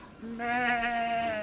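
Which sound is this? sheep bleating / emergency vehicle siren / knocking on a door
sheep bleating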